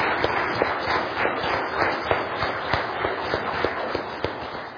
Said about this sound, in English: We always praise God for everything we do here, but how about a round of applause for the Lord and for the program He allowed us to have tonight?